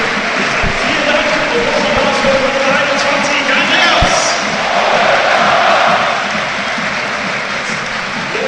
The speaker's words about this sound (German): Ja, dann mal einen kleinen Applaus für Andreas Vogelsammer.